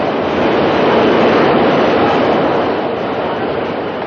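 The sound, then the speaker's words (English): A loud, steady roar of a subway train rushing by below, a dense, rumbling wash of noise that holds constant throughout with no voices over it. “Subway? Isn't it delicious?”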